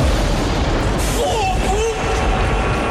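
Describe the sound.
A lightning strike with thunder on a stormy day: a loud, dense, low rumbling roar that fills the whole clip, a brighter crackling burst about a third of the way in, and faint voice-like tones over it.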